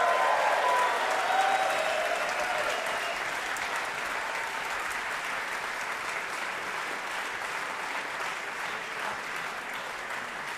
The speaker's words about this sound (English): It comes to that time where we have to give … more applause.